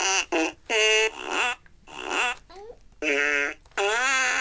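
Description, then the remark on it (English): A toy fart piano blurts out a quick run of loud, buzzy fart noises, about six short bursts at shifting pitches with brief gaps between them. “you didn't even play the fart piano at all.”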